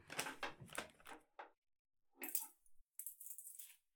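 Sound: rummaging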